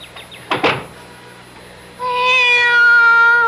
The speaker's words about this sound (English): Be quiet, cat.